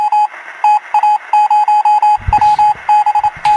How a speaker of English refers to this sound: Can we pretend he's still on the line with the Morse code